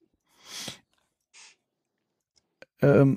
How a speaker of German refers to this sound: Man merkt direkt den Unterschied übrigens, dass wir online aufnehmen. Ich höre jemanden mit einer Maus klicken. Oh, Entschuldigung.